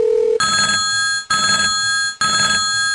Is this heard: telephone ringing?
yes